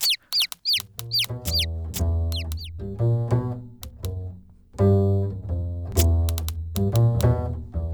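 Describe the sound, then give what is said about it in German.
A chick named Lumi peeps in a quick series of high, downward-sliding chirps during the first couple of seconds, then a loud, sustained tonal sound that resembles music takes over and continues. “Warte mal. Das ist... ein Küken.”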